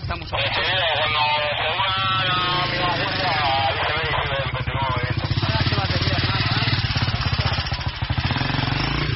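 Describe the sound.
A motorcycle engine idles steadily, its rapid, even putter running the whole time while voices talk over it.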